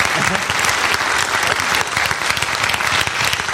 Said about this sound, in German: Super, vielen Dank. Dankeschön. Applaus und die tollen Geräusche. Dankeschön.